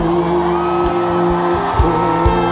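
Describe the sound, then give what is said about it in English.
A crowd at a church service shouts and whoops loudly and continuously, layered over sustained droning tones and a few deep thumps, with no clear individual voice standing out. “Full of laughter and we are shouting”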